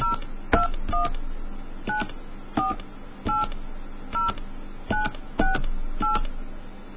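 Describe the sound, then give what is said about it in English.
About ten touch-tone beeps from a telephone keypad as a fake phone number is dialed on an MCI prepaid calling card line, each short dual-pitched tone starting with a button click, spaced at a steady but uneven pace over a faint background hiss. “make a call, dial 1, area code, and phone number now.”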